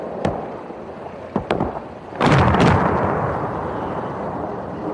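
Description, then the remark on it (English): Sharp cracks of artillery fire punctuate the first seconds, then a heavy, roaring missile explosion bursts out and rumbles on, slowly fading into a low sustained boom. No one speaks. “Personally, the most alarming situations were when I experienced myself the horror of being pounded by missiles.”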